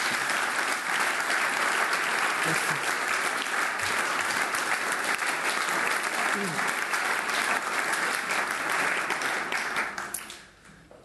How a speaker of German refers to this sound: Ich glaube, das ist Applaus wert.